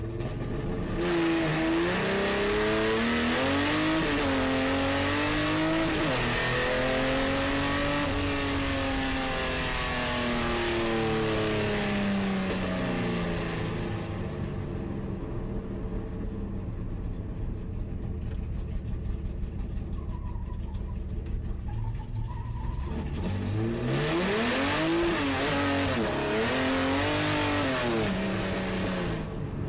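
The inline six-cylinder engine of an Opala car revs repeatedly, rising and falling in pitch with loud harmonics, easing to a lower rumble midway before climbing into hard revs again.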